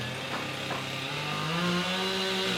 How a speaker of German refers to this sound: Dutzende Mitarbeiter des Katastrophenschutzes arbeiten auf der Maria-Entschlafenskathedrale, hämmern und sägen.